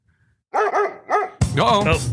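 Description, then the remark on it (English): A dog barks three times in quick succession after a moment of quiet, then lets out a louder, drawn-out bark or yelp, clear with no talking, played as the jingle introducing a doctor's note segment that answers listener questions. “Is that Pavlov's dog?”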